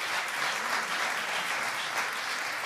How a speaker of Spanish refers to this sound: Ey, démosle un aplauso al hombre de 40 años. Sí.